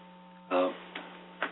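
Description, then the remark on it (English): Steady television-style static hiss with a low electrical hum underneath, broken by a few louder crackling bursts, fairly quiet overall. “You know, when it goes, you know, when it's all, there's no picture and it's all static.”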